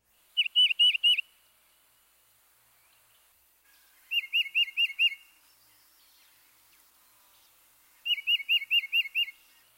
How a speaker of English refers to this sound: At other times, the song is a distinctive two-noted whistle, which we can represent as chiva, chiva, chiva.